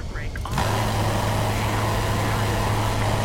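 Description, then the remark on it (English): An F-15 jet fighter engine in a video game kicks in after a brief moment and holds as a loud, steady roar with a deep droning hum beneath it. “Listen this engine sounds.”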